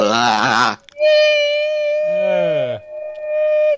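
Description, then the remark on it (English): A short, warbling, voice-like wail gives way to a loud, sustained, high-pitched metallic screech of cat claws scratching on metal, holding a steady shrill pitch with a brief break before continuing. “Oh, that's got to be a terrible sound, though. Cat claws on metal.”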